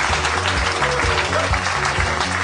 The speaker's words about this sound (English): Nobody go anywhere. Keep clapping. It's fun.